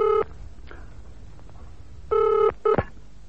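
household object, telephone being dialed

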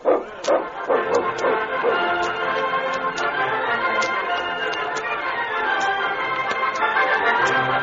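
animal, dog barking

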